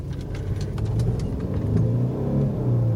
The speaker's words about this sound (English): Oh yeah, feel that power of a V6 motor or a six-cylinder motor.